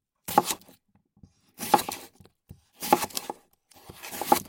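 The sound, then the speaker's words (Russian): Four distinct bursts of a knife cutting potatoes into even sticks for French fries, each a crisp, slightly tearing slice spaced about a second apart, fairly loud with no talking. “Картошку для этого надо нарезать ровненькими брусочками.”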